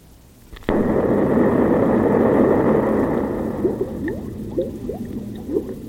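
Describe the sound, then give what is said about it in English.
A sudden loud blast gives way to a sustained roar, and as it fades, a string of gurgling liquid bubbles rises up, popping irregularly. “Oh, bubbles? Yeah, it's bubbles.”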